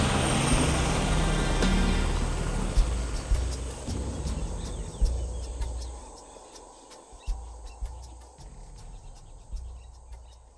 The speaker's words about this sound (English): Inside the chopper, he again automatically went to one of the canvas troop seats next to a window, sat down, and strapped himself in. Turning his head to look back, he felt a pang of regret as the chopper lifted off.